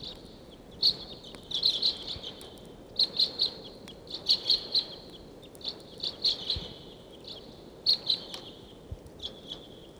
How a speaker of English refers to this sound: That's 749 calling loudly there. It sounds like the birds are coming down the gulch.